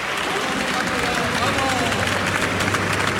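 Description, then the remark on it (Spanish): A crowd at a Renfe train station applauds steadily, welcoming the Andalusian racer José Antonio Rueda on his arrival, in a dense, continuous wash of clapping, with cheering and babbling voices mixed throughout and no pause for the whole stretch. “Son los aplausos y el recibimiento a José Antonio Rueda, el piloto andaluz de Los Palacios en la provincia de Sevilla, a su llegada a la estación de Renfe después de ser intervenido estos días en Barcelona.”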